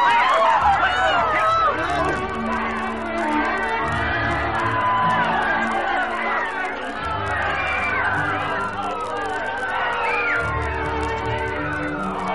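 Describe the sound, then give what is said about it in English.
A dense, panicked crowd in an auditorium shouts and screams over one another as smoke rolls in and fire is called, rising pitched cries above a constant roar of voices, with low rumbling footfalls of people running throughout. “Panic spreads through the crowd like a plague as smoke begins to roll from the back of the auditorium.”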